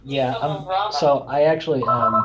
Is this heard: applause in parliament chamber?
no